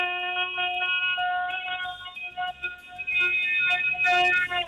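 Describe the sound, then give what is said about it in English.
A caller's voice over the phone imitates an air raid siren with a loud, sustained, wavering wail whose pitch holds and shifts slightly, briefly dipping before swelling again, with no talking over it. “Very air raid siren feel.”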